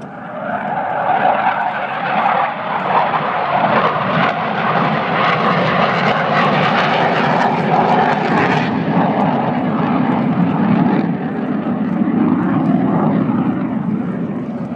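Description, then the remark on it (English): A propeller aeroplane roars loudly past overhead, its engine drone swelling and shifting in pitch as it passes, dense and sustained for the whole stretch with no voices. “At last, the aeroplane does its business for us in the sky.”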